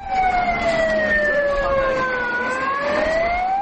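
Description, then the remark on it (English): An ambulance siren wails steadily in central Kabul, Afghanistan, its pitch sliding slowly down and then climbing again, loud over a constant rumble of street traffic, as ambulances ferry the injured to hospitals after a militant attack. “During a 3-hour standoff with the militants in the center of Kabul, Afghan National Army and police barricaded several city blocks as ambulances ferried the injured to hospitals.”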